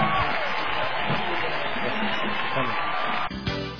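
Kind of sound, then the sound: crowd, crowd cheering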